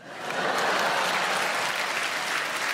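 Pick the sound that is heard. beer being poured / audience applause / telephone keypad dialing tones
audience applause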